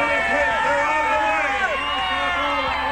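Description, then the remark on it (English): A dense crowd of many voices at the Minnesota Twins' victory parade in St. Paul, by the Centennial Office building, shouting and cheering together in a steady, loud roar that holds without a break for the full few seconds. “And listen to the crowd now.”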